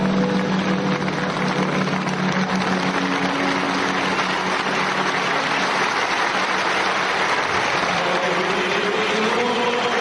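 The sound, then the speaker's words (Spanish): A large crowd of emotional faithful applauds steadily in the morning as the body of Pope Francis is carried past, a dense, continuous patter of clapping that holds at an even loudness throughout, while a choir sings beneath it as a faint low hum of voices or tones. “Los fieles, visiblemente emocionados esta mañana al paso del cuerpo del Papa Francisco, han roto en aplausos”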